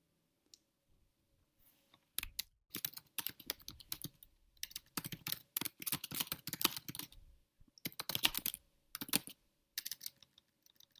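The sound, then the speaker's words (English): Rapid, frantic typing on a computer keyboard in the background, a dense flurry of clicky keystrokes in irregular bursts with short pauses, moderately loud, with no voices. “Hearing some frantic typing in the background.”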